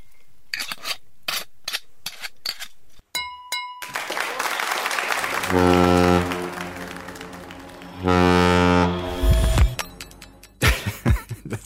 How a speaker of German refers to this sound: Also irritiert hat mich jetzt zuletzt hier dieser Tanker, der gehupt hat.